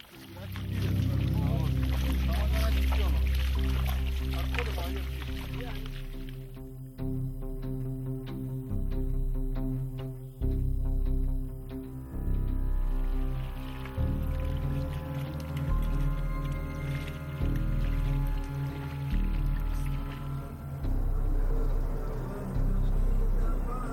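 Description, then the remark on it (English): A boat's motor drones steadily with a low, layered hum as it crosses the Helmand River in Afghanistan, while water rushes and splashes loudly at first before easing into a continuous wash under the engine. “We are crossing the Helmand River.”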